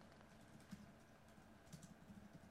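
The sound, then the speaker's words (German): Soft, irregular clicks of someone typing a question to post online on a computer keyboard, a few quick bursts of keystrokes, with no one speaking. “schaut mir gerade zu, wie in, die Frage in Facebook eintippt”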